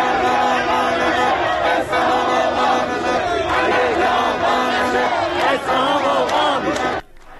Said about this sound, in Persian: تجمع هزاران نفر از مردم اصفهان در دومین هفته از اعتراض کشاورزان به بی‌آبی.